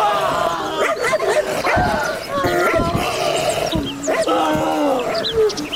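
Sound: dog barking aggressively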